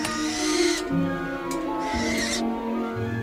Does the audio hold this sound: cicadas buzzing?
no